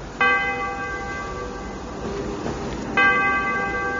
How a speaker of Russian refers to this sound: Как ударило этим колокольным звоном.